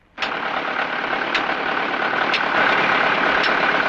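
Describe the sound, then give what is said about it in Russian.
A truck engine kicks in abruptly and keeps running, a loud, steady roar with faint regular clicks and a slight swell in volume toward the end; no one speaks. “Да не бойся, у него мотор сразу заглохнет и все, отойди!”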